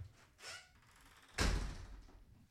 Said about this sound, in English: Slamming the door.